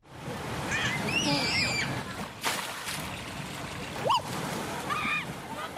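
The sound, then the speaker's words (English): Busy outdoor water play at Water World, a fun park in Cape Town: children careening down gushing slides into pools of fresh water. A steady wash of splashing with one bigger splash midway, while children's high shrieks and excited voices ring out over the noise. “Children careening down gushing slides into pools of fresh water.”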